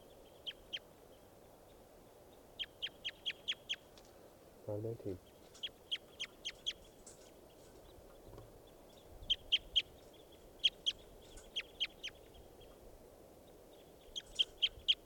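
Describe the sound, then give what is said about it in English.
A recorded call of bird number 519 repeats as quick bursts of three to five sharp, high-pitched chirps, separated by short pauses, over a steady low rumble with a brief dull knock partway through. “This is bird 519.”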